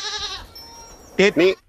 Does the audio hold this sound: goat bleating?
yes